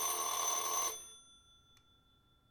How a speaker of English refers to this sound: The phone. Just what I didn't need.